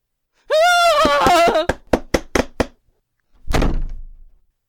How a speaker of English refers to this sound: I'll open the door for you and your miserable fro!